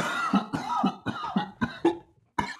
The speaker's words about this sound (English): coughs while blowing the smoke out of his hood.